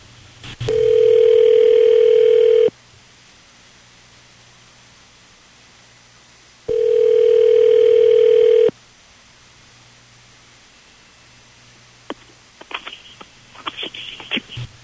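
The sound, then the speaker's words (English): Two steady, buzzing ringback tones sound over the line of an outgoing phone call, each lasting about two seconds with a long pause between, followed by faint clicks and rustling as the call is picked up. “we will call your boyfriend right now and see what's going on with this phone, okay?”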